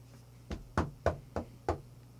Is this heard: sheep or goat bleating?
no